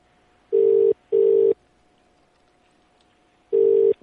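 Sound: telephone dial tone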